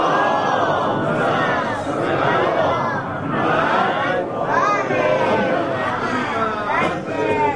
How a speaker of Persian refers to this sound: خواهرام الحمدلله سکوت کردن، انشالله امیدوارم برای این که تشویق بشند و سکوتشون ادامه بدن یه صلوات برای سلامتشون بفرستید.